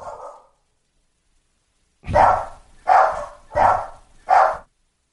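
A dog barks four times in quick, steady succession, loud, after a brief faint sound and a moment of silence.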